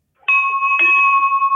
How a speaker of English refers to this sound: Oh, that's a beautiful bell, isn't it? It is a beautiful bell. Oh, wow. Yeah, can you ding it again? I'm almost there. Do you think you could ding it again? I just love that sound. It's so wonderful.